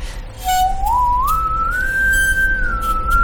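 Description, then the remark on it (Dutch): A bowed singing saw, a small, ordinary saw with a plastic handle of the kind sold at the Gamma hardware store, plays a pure, eerie tone that swoops upward in smooth glides, then holds a wavering high note with gentle vibrato, sounding on its own without voices. “Daarom heet het ook een zingende zaag.”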